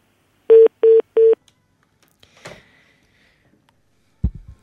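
Three short, evenly spaced telephone keypad DTMF tones beep clearly as a phone number is dialed once more to call a listener, followed by a brief rustle and a low thump near the end.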